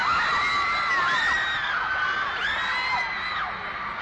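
A large concert crowd shouts and cheers continuously, many voices whooping and yelling together in a loud, dense roar that holds steady for the whole stretch.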